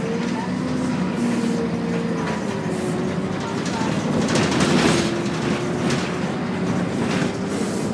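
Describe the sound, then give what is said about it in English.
Loud, steady rumble inside a moving bus heading to the ferry for Toronto Island while it is snowing, with a droning engine whine that slowly shifts in pitch and constant road noise filling the cabin throughout. “This bus is sure noisy, isn't it?”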